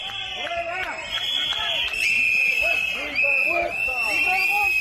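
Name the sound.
crowd booing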